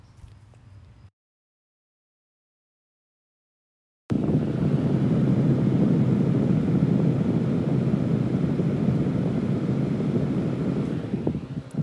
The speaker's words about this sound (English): It's the sound of a tiny fan on my desk, right next to a south-facing window, which at this time of year in the East Bay pours in some pretty hot light.